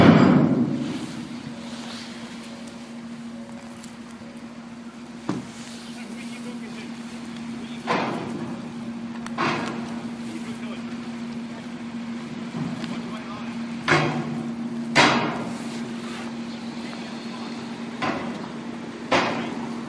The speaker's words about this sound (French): Les voitures sortent une à une.